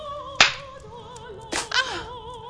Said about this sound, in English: Count. One. Nine slaps and nine gasps. Each is a strike.